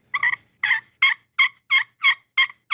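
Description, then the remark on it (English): A friction call imitating a turkey, a round pan with a sanded glass-like top played by running a carbon peg over it in circles, produces a steady series of eight raspy yelps, evenly spaced and fairly loud, each note a short squeaky rasp with no talking over them. “And the peg that I use to go on the top is a carbon peg. And you just run the peg over with making circles, and you can make your yelps with it.”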